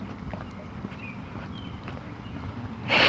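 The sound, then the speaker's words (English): A sudden, sharp sneeze bursts out at the very end, breaking through a steady background of soft rhythmic footsteps or hoof clops. “I have to sneeze.”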